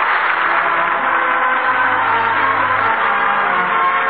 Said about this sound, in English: That applause you hear echoes from coast to coast.